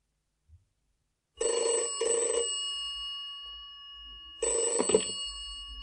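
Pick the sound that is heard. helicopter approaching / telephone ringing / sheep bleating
telephone ringing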